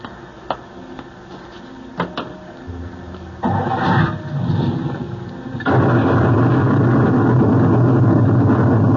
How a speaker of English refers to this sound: Just as we left the coach, sir, a bolt of lightning struck. Lucky we weren't all blasted into the next world.